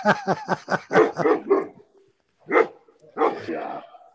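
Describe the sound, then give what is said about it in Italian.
Two German shepherds bark loud beside a garden: a rapid string of about eight sharp barks, a brief pause, then a couple of longer, rougher barks. “Sono due pastori tedeschi che stanno per mordere le chiappe al web, bellissimo.”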